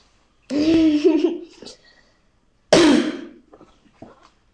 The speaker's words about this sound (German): Deswegen war ich habe trotzdem keinen Corona, ich habe nur normalen Husten.